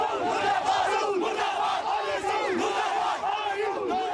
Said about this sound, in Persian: صدها مسلمان شیعه در جاده های سرینگر مرکز کشمیر تحت کنترل هند در حالی که عکس‌های شیخ نعم را حمل می کردند فریاد اعتراض علیه عربستان سعودی سر.